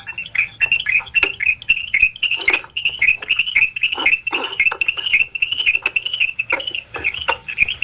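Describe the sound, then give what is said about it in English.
A chipmunk chirps rapidly and steadily during a board hearing, sharp high-pitched chips repeating in a fast, continuous run for several seconds, fairly loud, with no voices. “I do hear a chipmunk chirping.”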